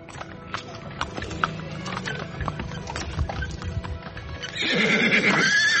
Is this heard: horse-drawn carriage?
yes